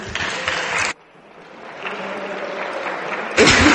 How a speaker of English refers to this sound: Order. Clapping is not in order in this house